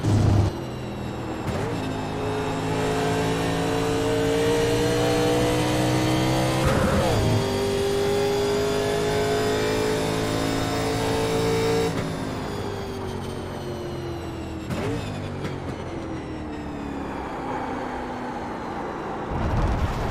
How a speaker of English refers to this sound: God, it's so crazy. 88 miles an hour through that turn. And I was doing like 100 through there in a Formula D car.